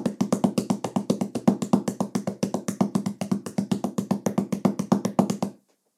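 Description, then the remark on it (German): Two hands drum rapidly on a tabletop, imitating the sound of a ladybird flying very fast, in a steady, quick rhythm of dull knocks, fairly loud, continuing for several seconds before stopping abruptly. No voices accompany it. “Nehmt dafür eure beiden Hände und klopft die etwas schneller auf den Tisch.”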